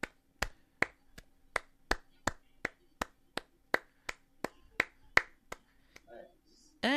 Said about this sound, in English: Let's give it a round of applause as he closes it.